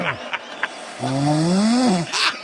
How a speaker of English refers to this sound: Oh, my goodness. That's not a normal snore. No, it's either. Not. That's a satanic, satanic snore.